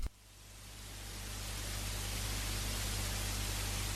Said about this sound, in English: Since Norway is the only country to abandon its FM infrastructure and switch to digital audio broadcast, most of the Bergen FM dial is static.